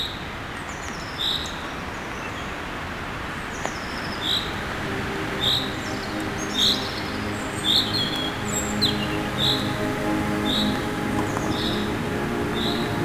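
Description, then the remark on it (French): Forest ambience with birdsong in the middle of a forest, sheltered from the wind: repeated short, high-pitched chirps ring out every second or so over a steady soft background hum, with a few fainter calls mixed in and no voices. “Au beau milieu de la forêt.”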